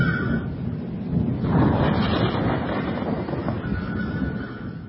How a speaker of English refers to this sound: I think a storm's coming.